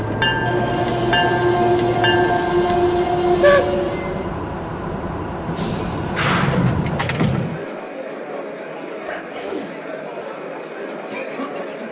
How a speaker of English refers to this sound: Now arriving from Cleveland on track number 2. Train number 16, the Ohio State Limited.